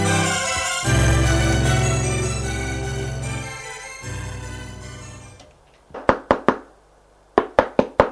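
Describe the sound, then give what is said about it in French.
Knocking on a bedroom door: two quick bursts of three sharp raps each, following a sustained musical passage that fades out beforehand. “On frappe à sa porte.”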